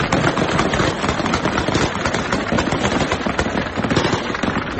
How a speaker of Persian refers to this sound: با ادامه یافتن اعتراض‌های ضد طالبان و پاکستان در روز سه‌شنبه، تصاویر منتشر شده در شبکه‌های اجتماعی حاکی از تیراندازی شدید طالبان در پایتخت افغانستان به منظور متفرق کردن تظاهرکنندگان است.